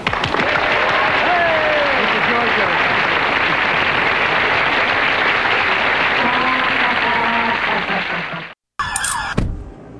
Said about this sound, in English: Okay. Cue the clap now.